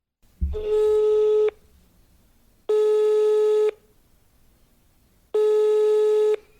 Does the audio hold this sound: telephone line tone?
yes